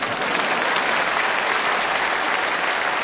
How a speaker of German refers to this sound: Und unser Problem ist, klatschen Sie ruhig.